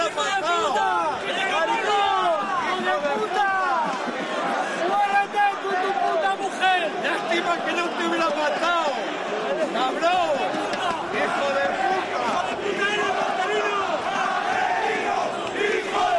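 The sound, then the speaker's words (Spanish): A large crowd of Rayo Vallecano football fans in Vallecas shouts and chants loudly and continuously, insulting coach Marcelino on the bench, many voices overlapping in a steady roar of hostile yelling that lasts throughout without a break. “Estos gritos en el banquillo de Marcelino de los aficionados del Rayo Vallecano.”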